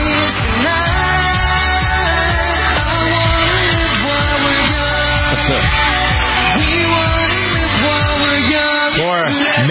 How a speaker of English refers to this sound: They deserve the screaming. These guys are good.